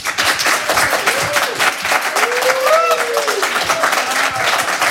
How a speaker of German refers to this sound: Ich bitte Sie um einen tosenden Applaus.